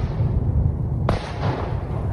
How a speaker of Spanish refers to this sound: Según las autoridades ucranianas, se escucharon fuertes explosiones en toda la zona durante la noche del sábado al domingo, y los misiles llegaron a edificios residenciales y varias escuelas.